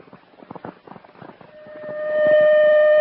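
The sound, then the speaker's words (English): A citywide alarm siren swells in halfway through, a steady high wailing tone that grows louder and holds, rising over a brief stretch of muffled, jumbled commotion. “Attention, citywide alarm.”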